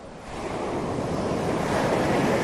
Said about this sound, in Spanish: El mar, pasear por la playa, estar tumbado en una tumbona ahí, bueno, pues mientras que estás escuchando romper las olas.